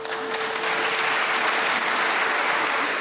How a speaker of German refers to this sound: Applaus brandete in Köln auf. Nicht enden wollender Applaus, als Papst Benedikt und der Kölner Rabbi sich die Hand reichten, lange und fest.